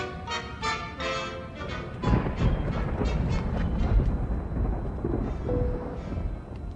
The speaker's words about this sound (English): Storm.